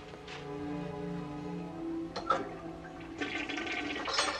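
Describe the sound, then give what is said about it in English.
A toilet is flushed with a torn-up piece of paper thrown in it: a brief splashy burst, then a loud rushing surge of water that swells over a steady, low tonal hum lasting the whole clip. “And throws it in the toilet and flushes it.”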